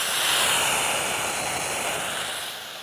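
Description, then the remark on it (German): A large dental saliva suction device runs with a steady, loud, airy hiss and roar for about three seconds, easing off slightly at the end; no one speaks. “So, wenn noch mehr Speichel da sein sollte, gibt es einen großen Absauger. Das klingt dann so.”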